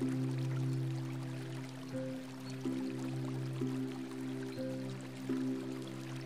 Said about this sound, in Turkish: Nehrin durmayan şarkısını dinle.